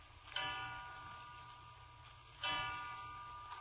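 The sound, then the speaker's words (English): A clock strikes three o'clock with slow, resonant chimes, two heard about two seconds apart, each ringing out and fading gradually, with no talking. “3 o'clock.”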